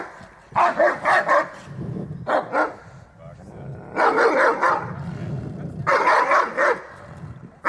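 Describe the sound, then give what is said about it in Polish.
A dog that is aggressive toward other dogs and some people barks aggressively after being surprised. It gives four loud, harsh bursts of rapid barks spaced a second or so apart, with muffled voices and background noise underneath. “Był zaskoczony, a teraz wszedł znowu w atak, nie?”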